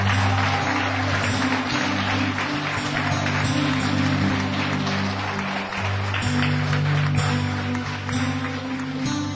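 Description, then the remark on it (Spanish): An audience applauds 'for the King' steadily and loudly for about nine seconds, a dense unbroken clatter of many hands, with low sustained musical chords humming beneath it. “Si ese aplauso es para el Rey, dáselo fuerte.”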